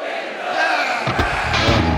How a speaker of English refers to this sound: And the audience goes mild. I mean, you can hear the lack of enthusiasm in their voice.